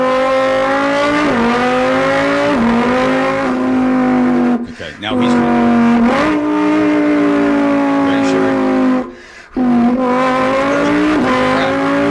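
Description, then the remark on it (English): A voice imitates the 5.2 liter V10 engine of a Lamborghini Huracan revving with the mouth: loud, buzzing revs that climb and drop in repeated waves, with two brief pauses and a few spoken words. “Starting off with the Lamborghini Huracan, this car comes with a 5.2 liter V10, and this is what it sounds like.”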